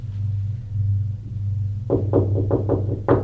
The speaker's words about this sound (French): On frappe à la porte.